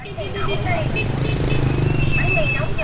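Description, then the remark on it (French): Busy street traffic in Ho Chi Minh City, Vietnam, at 6 p.m. at the end of the day: a steady, loud rumble of motorbike engines trying to get through traffic jams and repeated high-pitched horn honks, some held and some short, with indistinct voices mixed into the din. “Au milieu d'un concert de klaxons, les motos tentent de se frayer un chemin dans les embouteillages.”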